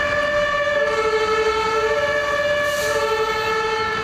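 A German fire engine siren blares as the engine leaves the yard with blue lights on to a fire, switching back and forth between two harmonic tones about once a second, loud and steady with no voices.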